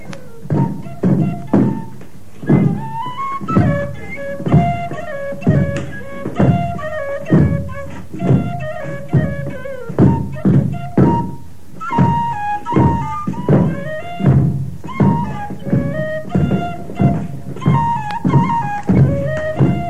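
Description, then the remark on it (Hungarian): Dancers' sticks knock together in a steady, rhythmic beat as they dance in a circle and jump, fairly loud, over a lively folk melody played throughout. No one speaks. “Táncolnak, körbe mennek, ugrálnak, botjaikat ritmusra koppantják.”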